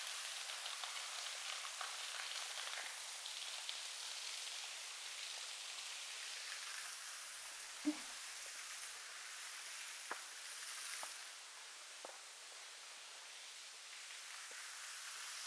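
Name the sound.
waterfall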